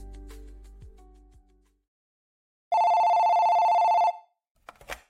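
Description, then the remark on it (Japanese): A single loud, steady telephone ring of a call to a telephone advice line lasts just over a second after a brief silence, followed by a short clatter as the call is picked up. Faint music fades out at the start. “はい、手あこり電話相談です。”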